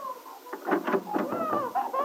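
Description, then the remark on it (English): A baby boy, napping out on a terrace and hungry for his feeding, cries in a string of short, choppy wails that run into a longer, wavering high-pitched cry, fairly loud and steady throughout with no talking over it. “Listen to the little monkey. Nothing wrong with his lungs.”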